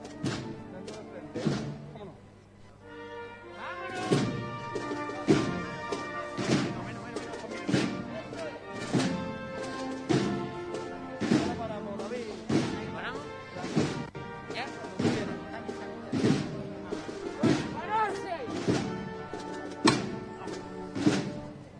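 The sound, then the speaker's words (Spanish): A series of loud, sharp hammer knocks and heavy thuds repeat at a steady, roughly one-per-second pace for about twenty seconds, over a sustained bed of droning tones and murmuring voices, as the procession float (paso) is lowered to the ground again, minutes before being taken back into its church. “El sonido del martillo, nuevamente el paso se arría al suelo.”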